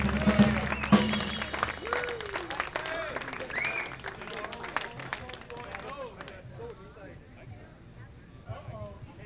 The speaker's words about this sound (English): All right. Big round of applause from right here in Kansas City.